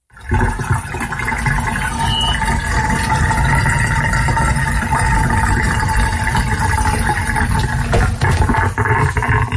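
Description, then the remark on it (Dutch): Dishwater draining from a sink: a loud, steady rush and gurgle with a deep rumble and a faint hum running through it, lasting the whole stretch without any talking. “Het weglaten lopen van het afwaswater.”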